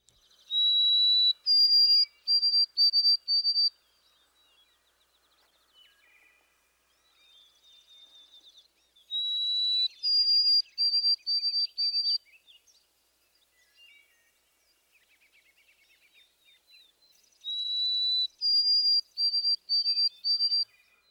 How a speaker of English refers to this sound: you should have little trouble recognizing different forms of the white-throated sparrow's sweet whistle